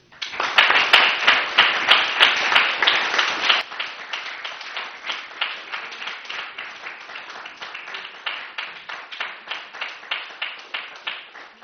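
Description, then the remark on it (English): Applause from a crowd for a woman who has just finished a talk, loud and dense at first, then thinning after a few seconds into steadier, rhythmic clapping that continues to the end. No voices are heard. “I was just making sure she got the applause that she deserved.”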